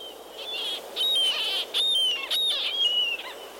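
Repeated high, piercing calls from a murrelet, a small endangered seabird that nests in old coastal forests on the west coast. A run of several drawn-out keening notes over about four seconds, clear against a quiet background with no talking.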